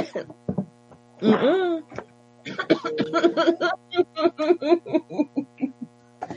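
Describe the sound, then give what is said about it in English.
A small cough breaks out, followed by a run of short, sharp bursts, all over a steady low electrical hum. “Where that little cough come from out of the no damn where?”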